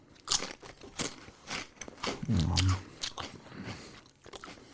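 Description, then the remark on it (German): Someone chews a crunchy, slightly spicy snack, taken out one piece at a time, with a series of sharp, crackling bites and crunches at an uneven rhythm and a louder crunching burst in the middle, no talking. “Aber du isst auch wie ein Schwein.”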